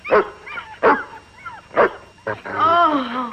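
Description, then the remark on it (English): A dog growls and snarls, showing its teeth, in several sharp, loud bursts, ending with a longer, wavering growl that trails off. “He's growling, showing his teeth.”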